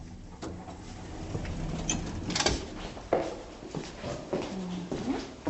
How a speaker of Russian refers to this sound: Первый этаж. Двери открываются.